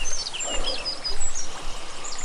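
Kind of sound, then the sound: nature, flowing stream water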